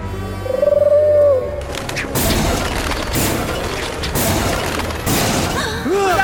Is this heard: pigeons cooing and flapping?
yes